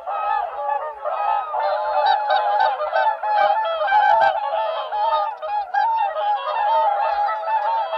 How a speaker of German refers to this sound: Der Singschwan, also der Vogel der Woche, ist quasi der Aristokrat unter den Schwänen, der mit seinem langen, gerade gestreckten Hals, woran man ihn auch von Weitem schon erkennen könnte